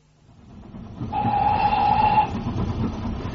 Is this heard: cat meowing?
no